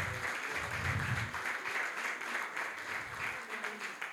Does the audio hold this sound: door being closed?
no